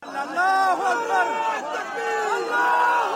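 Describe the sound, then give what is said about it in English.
A crowd in Pakistan shouts "God is great" and cheers in excitement at night as the final person is rescued from a stranded cable car that carried seven school pupils and a teacher, many overlapping raised voices forming a loud, continuous celebratory roar. “Waiting arms and shouts of God is great.”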